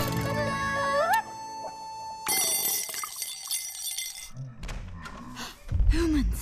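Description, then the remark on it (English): A spoon gets knocked over with a sudden bright metallic clatter and ringing, coming after a stretch of rising, sliding musical tones and followed by brief squeaky vocal sounds. “He goes to get it and disturbs a spoon.”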